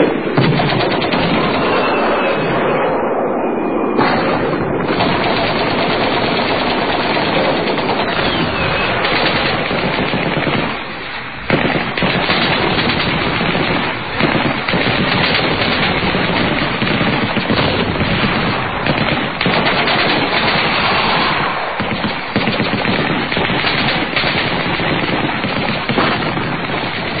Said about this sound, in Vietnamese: Nhận được lệnh, ông Thượng sĩ cho lính nổ súng.